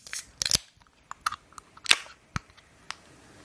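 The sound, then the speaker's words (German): A bottle of hoppy beer brewed with Simcoe hops is opened, with a cluster of sharp metallic clicks and snaps as the crown cap pops off and strikes the microphone, followed by a few scattered lighter clicks and a final tick. “Ui, jetzt habe ich hier schön mein Mikro erstmal eine Bierkrone verpasst.”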